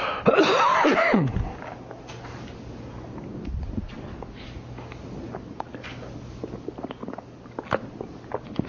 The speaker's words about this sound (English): Maybe it is the chalk that makes me cough all the time.